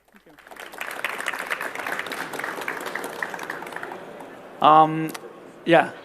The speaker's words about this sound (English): So thanks a lot that you're here, and that's your applause.